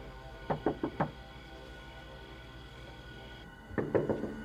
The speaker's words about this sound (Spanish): Ella había tocado a la puerta.